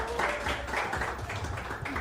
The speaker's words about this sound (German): Applaus bitte.